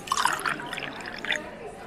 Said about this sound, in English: It's going to be a quick shot called Hologram. One part blue carousel, one part banana liqueur, and one part cranberry juice. Place the ingredients into the shaker with ice, shake, and strain into a shot glass.